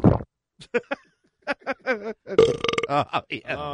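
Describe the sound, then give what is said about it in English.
A loud, drawn-out burp after swallowing a lot of air follows a few short croaky belches, its low guttural rumble wavering in pitch before breaking off into a final rough gulp. “Swallowed a lot of air.”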